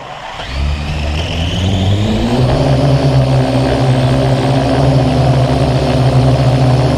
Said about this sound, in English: Here's a Parrot AR drone about a foot long. You hear it starting up and taking off.